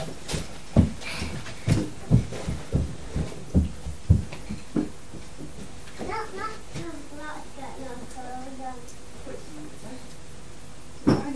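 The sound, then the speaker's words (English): A steady run of soft heartbeat thumps from a toy stethoscope held to a doll pulses for several seconds, then fades as a child's voice chatters. “And you listen to his heartbeat and it'll be going bubum, bubum, bubum.”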